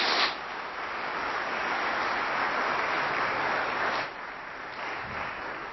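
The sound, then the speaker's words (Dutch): A crowd applauds steadily for a woman turning 75 tomorrow who has lived 40 years at Ipsen de Brugge, a dense wash of many hands clapping at once that holds for several seconds before easing slightly toward the end. No one speaks over it. “Nu mag je heel hard klappen.”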